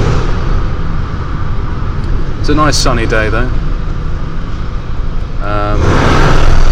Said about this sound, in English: It's actually been windy enough that some of the barriers erected by the traffic maintenance people has blown over. So that's a pretty bad sign.